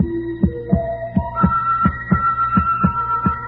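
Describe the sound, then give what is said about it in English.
A loud, heavy heartbeat thumps in a fast, steady rhythm, roughly nine deep throbs, while a sustained electronic-sounding tone climbs upward in steps over it. No one speaks. “Who wouldn't, for that incessant beating that filled the room that seemed to make the very walls shake with its monotonous beat, that rhythm?”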